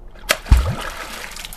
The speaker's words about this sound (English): As soon as he hears anything, he'll splash. And so that beaver tail hitting the water. A warning. It means, hey, you're too close. Back off.